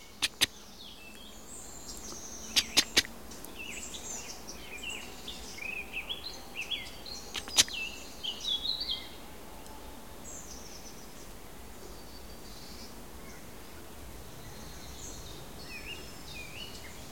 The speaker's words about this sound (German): da sitzt wieder so ein sehr rot leuchtend schimmernder, von der Sonne angestrahlter Punkt. Das ist das Eichhörnchen, es sitzt gerade sehr still, aber man hört diese leichten Rufe.